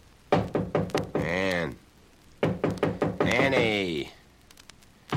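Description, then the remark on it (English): Two bursts of rapid, heavy pounding on the door of a woman's room, five or six thuds each, and after each burst a man, the character Logan played by Vincent Price, calls out in a rising, sing-song voice asking her to open the door. “Logan, played by Vincent Price, opens the scene as he pounds on the door of your room.”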